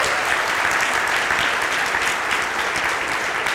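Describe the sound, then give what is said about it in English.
Audience applause for the people who decorated the VBS stage: a steady, dense wash of many hands clapping, loud and sustained throughout with no voices standing out. “Can we give the people who decorated just a round of applause?”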